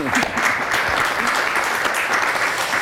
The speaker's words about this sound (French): Merci. Merci beaucoup. Ça mérite un petit applaudissement quand même. Merci.